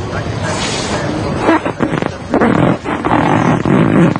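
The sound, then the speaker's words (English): A chair lets out a loud, rough, drawn-out squeak and groan as a 284-pound, 6'3" man drops into it, straining in uneven bursts for a few seconds. “All right, he made a pretty big squeak, huh?”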